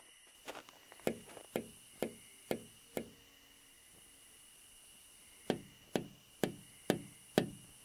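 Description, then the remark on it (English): Two bursts of crisp, evenly spaced taps on the windows of a locked building, about six and then five, separated by a few seconds of quiet. The knocks sound sharp, with no voices. “Now we tap on the windows to see if anything inside gets stirred up.”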